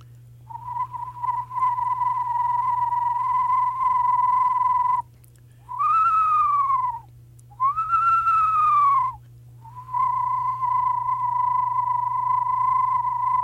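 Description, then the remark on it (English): A person whistles through some spit to imitate an eastern screech owl's horse-like whinny: long, steady trilled whistles broken by two descending, wavering glides, clear over a low steady hum, with no talking. “I hate to say it, I'm kind of whistling through some spit, and that gives me that trill, and that's what the screech owl sounds like.”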